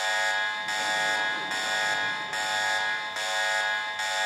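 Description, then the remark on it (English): A loud, harsh electronic alarm buzzer, pulled as a joke overachiever alarm after a young person's list of accomplishments, blares continuously, pulsing in a steady rhythm of roughly two beats per second, with no voices over it. “we sound our overachiever alarm when a young person's accomplishments threaten to make the rest of us feel like chopped liver.”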